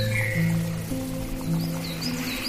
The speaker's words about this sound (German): Vielleicht stehst du mitten im Wald und hörst die Stimmen der Vögel.